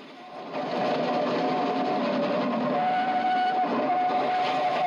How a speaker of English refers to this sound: As an engine steams out of the tunnel, a fireman stokes the boiler's roaring fire with coal. Sitting on the fence at the top of an embankment, the children watch the train streak past, steam gushing from its funnel.